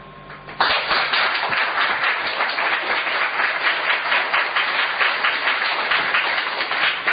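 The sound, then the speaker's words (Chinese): A crowd bursts into sustained applause after a brief quiet moment, many hands clapping densely and steadily at a consistent loud level for several seconds. “你要鼓掌呢，你就鼓一下子，你不能看大家不跟上嘛，你就停下来。”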